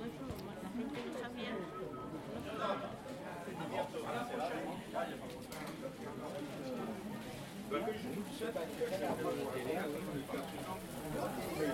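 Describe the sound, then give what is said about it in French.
A busy outdoor market in Buis with a steady wash of overlapping crowd chatter and murmuring voices, continuous, with no single voice standing out for long. “C'était la balade sur le marché de Buis.”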